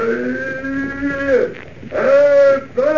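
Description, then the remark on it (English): A horse, being urged on by its rider, neighs loudly, a long drawn-out call followed by a shorter second one, then a third starting, with no talking over it. “Get up there, horse. Get up.”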